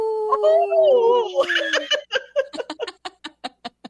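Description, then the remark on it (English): A person's voice imitates a wolf howl with a long, wavering tone that slides downward, then breaks into a run of rapid, rhythmic laughter bursts, fairly loud. “your wolf howl is great.”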